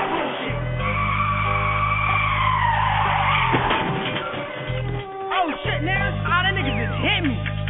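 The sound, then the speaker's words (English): A car's tires squeal in a long, loud skid over a heavy engine rumble, followed by a jolting impact as it rams another car, with engine noise and scattered clatter continuing afterward. “When he get to run the block, he just ram him in his tags, alright?”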